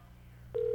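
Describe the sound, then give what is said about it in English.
A low hum gives way to a sudden, steady electronic telephone dialing tone as someone dials a phone line on air. The tone is loud and holds without a break to the end. No one speaks. “Don't you love hearing somebody dial on the air?”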